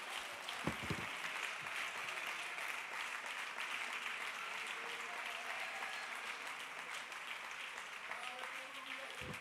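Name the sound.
audience clapping hands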